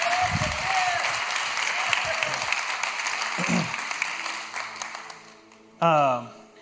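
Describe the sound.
A crowd applauds in a steady, dense wash of clapping that holds for several seconds, then trails off as a voice begins speaking over the fading claps.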